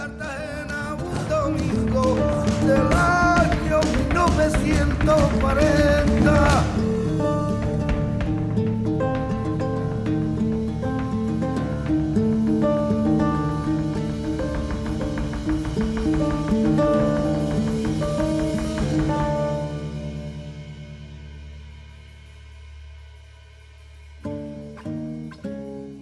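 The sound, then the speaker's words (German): A song plays loudly with no talk over it. It opens busy and rhythmic with percussive strikes, settles into sustained melodic accompaniment, then thins out near the end with a few isolated notes. “Das Lied, das wir hören, Gern Irak, setzt sich zusammen aus zwei Wörtern.”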